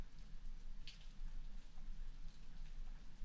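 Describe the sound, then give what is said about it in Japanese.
Soft, steady rain patters down as it starts to fall, a quiet wash of scattered drops with a low background rumble and no voices. “あ、雨降ってきちゃった。”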